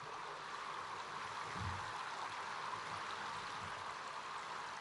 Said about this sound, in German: Die Stürme des Alltags sind gebannt. Nur das sanfte Rauschen des Wassers ist zu hören. Es ist 35 Grad warm. Der Patient schwebt.